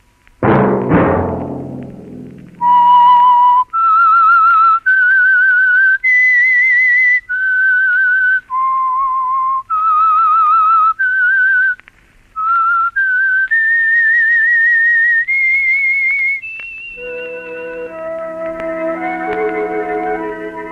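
A slow whistled melody of clear, sustained notes rising and falling over about fourteen seconds, loud, the theme of the radio program The Whistler, opening after a brief struck chord and giving way to swelling orchestral music.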